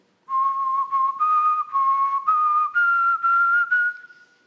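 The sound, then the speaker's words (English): A person whistles a slow hymn melody alone, a clear, steady tone broken into several sustained notes that drift gently upward in pitch, fairly loud. “all of a sudden, Hudson Taylor started whistling”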